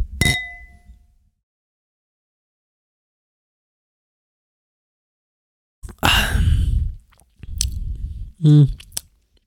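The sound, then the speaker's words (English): A single bright clink of wine glasses of honeydew Moscato touching in a toast rings out clearly and decays over about a second, then silence, followed by sipping of the wine and breathy sounds and a brief hummed vocal noise. “Let's do a little cheers.”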